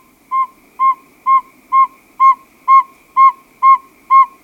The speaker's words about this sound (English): The advertisement call of a male saw-whet owl, if you play that at night during the migration, it will lure the migrating owls down out of the sky, and we string mist nets in the woods and harmlessly catch them, band them, take a few measurements,